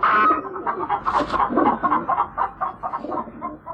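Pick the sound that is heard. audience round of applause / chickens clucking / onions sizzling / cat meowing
chickens clucking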